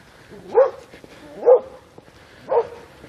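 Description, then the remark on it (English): Dogs barking on a sunny 32-degree day: three separate woofs spaced about a second apart, moderately loud, with quiet background between them and no talking. “It's 32 degrees on a beautiful sunny day with barking dogs.”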